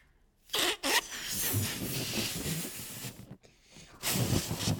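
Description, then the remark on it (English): Breath being forced into a balloon: two quick puffs, then a long steady blow, a brief pause and another strong, hissing exhale. No one speaks. “See, I can blow mine up real easy, no problem.”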